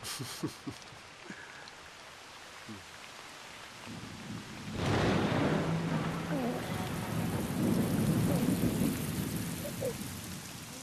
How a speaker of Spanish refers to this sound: Esta lluvia celebra tu advenimiento, hijo mío.